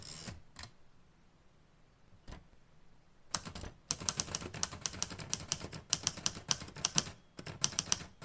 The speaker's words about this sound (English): And I am typing it up